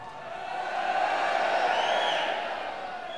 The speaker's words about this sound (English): That sounds like a crowd watching Bournemouth. Okay, I don't know what the song is, but let's get on with it.